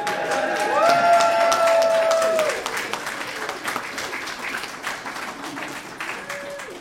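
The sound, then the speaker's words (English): Wedding guests break into steady, dense applause for the couple's kiss on their wedding day, mixed with a few cheers and a sustained whistle, loudest for the first couple of seconds before thinning into scattered clapping. “Everybody applaud.”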